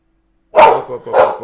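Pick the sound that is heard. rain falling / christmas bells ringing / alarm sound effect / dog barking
dog barking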